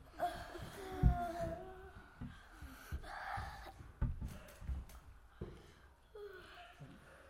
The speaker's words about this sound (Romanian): Și toată lumea cască. Încă o dată. Încă o dată. Deschideți gura mare, mare, mare și căsca.